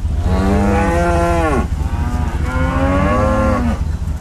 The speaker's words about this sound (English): cows near Billmore, Missouri, are lucky. The grass they're grazing on just tested negative for high levels of nitrate.